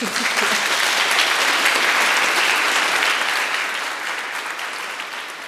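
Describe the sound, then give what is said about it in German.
An audience claps steadily for several seconds, a dense wash of many hands at a fairly loud level that holds even and then tapers slightly near the end, with no talking over it. “Wir freuen uns auf Sie und heute heißen wir Sie mal herzlich willkommen mit einem Applaus.”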